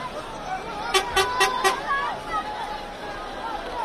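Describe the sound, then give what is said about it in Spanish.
Car horns honk four quick, evenly spaced toots in a rhythmic burst in celebration at Nasser Hospital in southern Gaza as released prisoners return for medical checks, ringing over a bustling crowd of thousands murmuring and chattering in the background. “En el hospital Nasser y sus alrededores, en el sur de Gaza, miles de personas vitorearon y las bocinas de los autos sonaron en celebración mientras los prisioneros liberados regresaban para someterse a revisiones médicas.”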